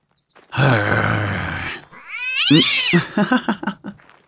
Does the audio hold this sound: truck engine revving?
no